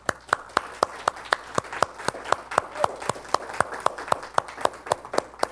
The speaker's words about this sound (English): Before you go, kids, would you help us just thank our dads by giving them a hand clap this morning? Thank you, Dad.